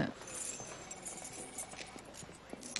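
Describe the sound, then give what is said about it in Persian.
Keys jangle and clink in a series of quick, light metallic taps, with faint background noise and no clear speech; they are Preston's keys. “فقط بعدش کلیدو بزنی زیر گلدون.”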